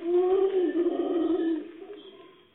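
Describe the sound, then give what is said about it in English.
Red howler monkeys let out a deep, droning roar that holds steady and loud for over a second, then trails off into a fading moan. “Red Howler monkeys.”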